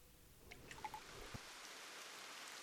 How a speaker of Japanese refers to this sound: 不意にポツポツと雨が降り出した。